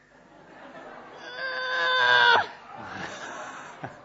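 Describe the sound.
A woman on a stage, playing a very pregnant character, gives her best impression of a birth pain: a loud, strained, high-pitched wail that builds and breaks off abruptly, followed by quieter breathy noise and a brief click.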